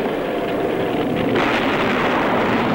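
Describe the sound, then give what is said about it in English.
A buzz bomb, driven over a cliff, explodes at the bottom in a ball of smoke and fire, heard as a loud, sustained roaring rumble with crackling texture, turning harsher and brighter about halfway through, with no voices. “At the bottom of the cliff, the buzz bomb explodes in a ball of smoke and fire.”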